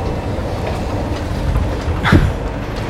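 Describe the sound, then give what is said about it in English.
A steady rumble of a subway car rolling along the rails, with a single sharper clack from the track near the end. Nobody speaks. “Goes like this. Subway. Car.”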